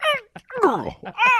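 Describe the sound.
A man vocally imitates an old man's habitual throat clearing: a few rough, groaning bursts that slide down in pitch, separated by short gasping breaks, fairly loud and with no other talking.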